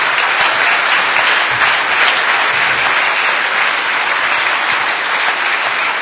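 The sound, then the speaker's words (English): Sustained applause from an audience, a steady loud wash of many hands clapping that holds evenly for several seconds without a break or any voices. “Round of applause.”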